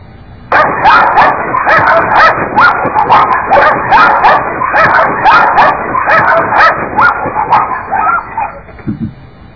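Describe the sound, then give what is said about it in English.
A dog yips, barks and whimpers almost nonstop for about eight seconds, loud, with excited overlapping cries before falling quiet near the end. “So look at the dog is licking it.”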